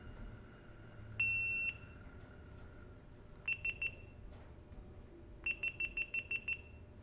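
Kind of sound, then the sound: signal or alarm, electronic beeping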